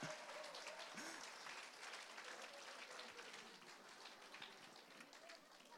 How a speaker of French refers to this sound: Alors, c'est encore beau, on peut doublement l'applaudir.